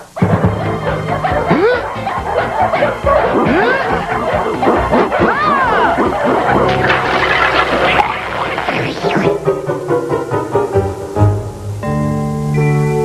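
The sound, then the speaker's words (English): A loud, chaotic chorus of many dogs barking and yipping over one another, continuous for several seconds, before the racket gives way to steady tonal sounds. “If it attracts the dogs, it is worth it.”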